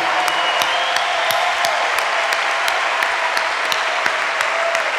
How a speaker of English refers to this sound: And there's a decent number of kids out here tonight too, so they should also just get a huge round of applause. Good for you.